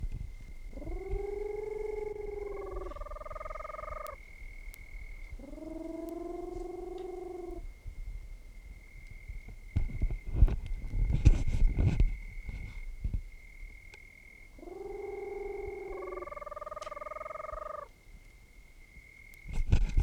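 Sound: peruvian screech owl calling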